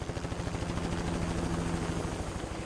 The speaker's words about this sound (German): Und dafür gibt es einige Wege. Fangen wir mit der wohl spektakulärsten Methode an. Anlieferung per Helikopter.